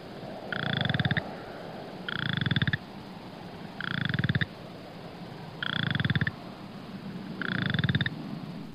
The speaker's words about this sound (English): Striped chorus frog.